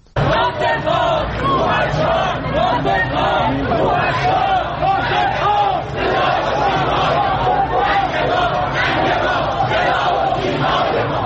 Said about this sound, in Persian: این فریاد مردمی است که روز یک شنبه در تهران ناصر ملک مطیعی بازیگر پیشکسوت ایرانی را تا خانه ابدیش بدرقه کردند.